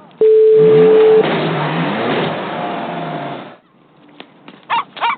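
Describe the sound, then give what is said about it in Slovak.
A car engine revs loudly for about three seconds, its pitch rising and falling, then cuts away to quiet with a few faint, brief clicks and knocks. “Či je tohle auto? Bingo.”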